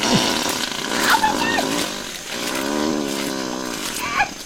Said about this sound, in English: This literally captured these sounds for the first time, I think, in the wild. Wow. Which is pretty fantastic. I've got 20 more seconds of gorilla farts. Oh, do you really? Yeah. They live in a semi-permanent state of flatulence.